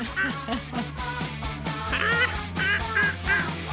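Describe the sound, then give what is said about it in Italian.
Seagulls calling from a crane in a loud, busy chorus, harsh squawking cries repeating rapidly and overlapping, with a steady low background hum underneath. “Così che cantano i gabbiani sulla gru.”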